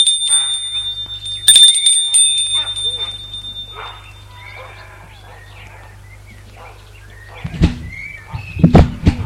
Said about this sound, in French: Soit sorti de voiture, il monte le perron pour sonner à la porte d'entrée de la maison.